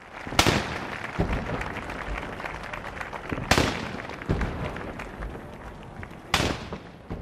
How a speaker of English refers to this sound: It is the scene that has been repeated every 4 years since 1789. Patriotic music was played. Cannons were fired.